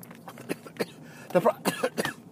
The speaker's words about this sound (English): One second while I cough.